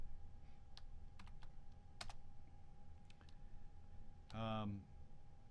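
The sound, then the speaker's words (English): Scattered keystrokes on a computer keyboard as someone types a website URL, a handful of crisp, fairly quiet taps at uneven intervals over a steady low hum, followed by a brief burst of a voice. “So I'm just going to start typing a URL,”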